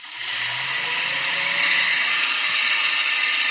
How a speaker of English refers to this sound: And this Noisy is a hydroelectric turbine. So this is a machine that makes electricity from the passage of water. So let me just play the beginning for you again.